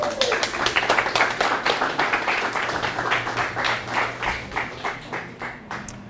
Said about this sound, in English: That was better than the golf clap I usually get.